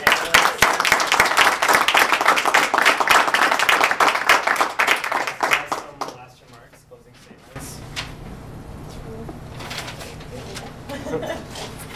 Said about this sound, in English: And thank you all. A last round of applause for our